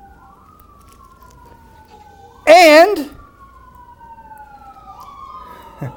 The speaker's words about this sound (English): Let the sirens get by because you can't miss it.